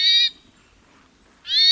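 Two loud hermit thrush call notes, each a short, rough, nasal note, separated by just over a second of near silence.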